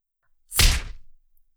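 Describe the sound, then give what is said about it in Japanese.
A single heavy impact like a fist punch striking a body, a sharp thud with a brief rumbling tail that fades within half a second, with no voices. “私のパンチを食らっても、まだ同じ態度が取れるかしら？”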